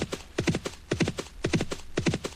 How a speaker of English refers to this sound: Also, you can hear some horse sounds. Let's go ahead and race here.